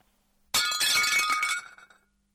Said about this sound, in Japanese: 出勤前の午前8時、妻がお皿を割った。